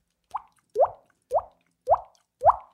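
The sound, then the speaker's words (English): A voice imitates water droplets with five evenly spaced, bright mouth plops, each a quick rising pop like a drip landing in a glass, with short pauses between them. “Other talents, I can make water noises with my mouth.”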